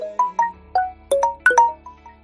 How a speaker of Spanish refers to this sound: Este es el sonido que suena en muchísimas casas cuando hay adolescentes y cuando hay niños, ¿eh? Permanentemente el sonidito de un mensaje de WhatsApp y de cosas o notificaciones de las redes sociales.